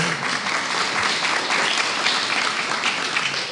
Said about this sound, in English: Tomorrow's her birthday. She'll be 91 years old. There's a little applause.